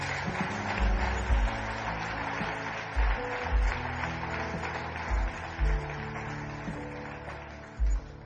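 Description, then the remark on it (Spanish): A church audience applauds in praise of God in a dense, continuous wash of clapping, with sustained music and periodic heavy low thumps underneath throughout. “Un aplauso al Rey de Reyes.”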